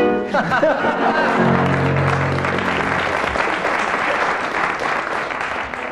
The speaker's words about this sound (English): I didn't tell you, teams, that I should be awarding marks according to the strength and volume of the audience applause.